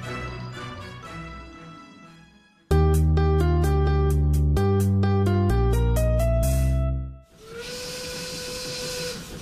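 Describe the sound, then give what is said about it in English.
A steam train sounds a loud, sustained multi-tone whistle over rhythmic chuffing puffs, then releases a broad, steady hiss of steam that keeps going to the end. “This train is awesome!”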